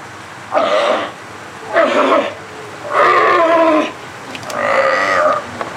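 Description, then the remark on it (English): Seals and sea lions housed in chain-link pens with small concrete pools at the Marine Mammal Center on a sunny day bark and bellow in four loud, harsh calls, each under a second and spaced about a second apart, with a low background hum between calls. “The animal pen area is bustling. Seals and sea lions are housed here, one, two, or three at a time, in individual chain link enclosures, each one containing its own small concrete pool.”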